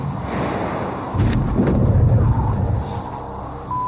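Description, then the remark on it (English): The parachute of NASA's Perseverance rover deploys during its landing descent to Mars in February 2021, a loud, rough rush of wind-like noise, swelling into a deeper rumbling surge partway through before settling back into a steady roar. No voices. “Parachute opens.”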